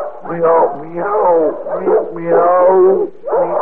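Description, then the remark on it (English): A person imitates a pedigree cat with a run of drawn-out, wavering meows, about four or five in close succession, loud with no other sounds. “So make like a pedigree cat.”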